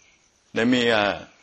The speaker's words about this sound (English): Is that frog? Oh. That sounds like frog. Actually good.